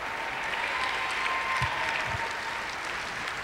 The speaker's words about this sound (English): Come on, and give a great big clap hand. Clap your hands, that's right. Clap your hands.